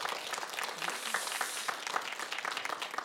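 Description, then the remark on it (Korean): An audience applauds steadily to cheer on a worship singer at a stage event, many hands clapping in a dense, even patter that stays at a constant level for the full few seconds, with no voices standing out. “네, 그렇게 되기를 또 바라고 응원하는 마음으로 우리 박수 한으로 연예 씨를 응원해드렸으면 좋겠습니다.”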